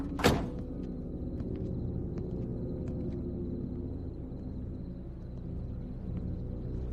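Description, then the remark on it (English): A van's door opens with a sharp clunk near the start as the driver gets out, then a steady low engine rumble hums on alone for several seconds with faint clicks above it. “A van's lights click off. The door opens, a driver dressed in black with a gun exits.”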